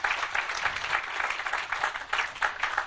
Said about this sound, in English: Really appreciate that. And a round of applause.